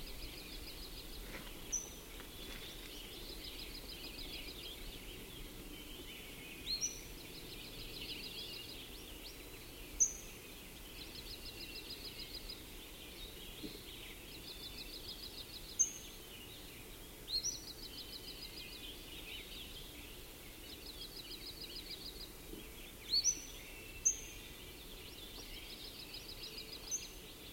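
bird calling

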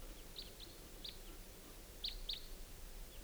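birds calling

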